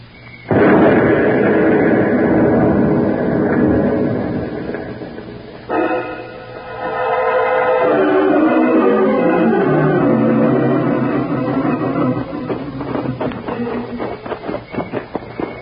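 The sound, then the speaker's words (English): A truck loaded with explosives explodes in a loud blast followed by a long roaring rumble, then a second burst with falling, groaning tones that fades into scattered crackling pops and debris. No one speaks. “Shouldn't go near that exploded truck, Mr.”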